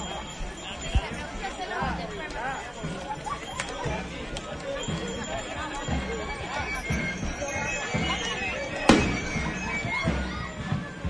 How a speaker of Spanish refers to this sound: Y ya escuchamos los cohetes que anuncian que todos van llegando.